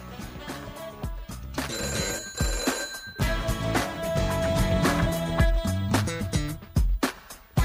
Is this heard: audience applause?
no